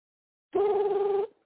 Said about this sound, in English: Who is that, dude? It's the same number, dude. It's calling back again.